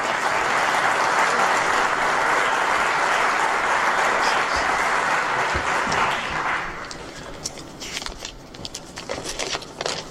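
Dense audience applause at the Premi Sitges evening ceremony in Sitges lasts several seconds, a steady wash of many hands clapping, then thins out into scattered individual claps as it dies down.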